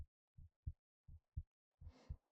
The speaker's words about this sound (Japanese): 聞こえますか？なんだかわかりますよね。そうです、私の心臓の音。スライムは肌と肉体の境界が曖昧だからよく聞こえるんだそうです。安心しますか？この音、安心するんですか？